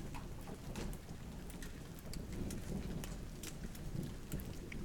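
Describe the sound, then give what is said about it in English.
Steady rain falls on a cold day, a dense hiss scattered with sharp droplet taps and a low, rumbling wash underneath. It stays fairly even in loudness, with no voices. “It's raining, it's cold, and it's the weekend.”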